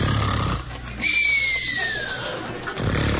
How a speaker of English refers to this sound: Suddenly, the stillness of the night is shattered by an unearthly wail.